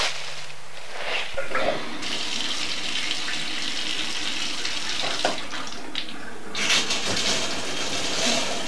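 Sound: running water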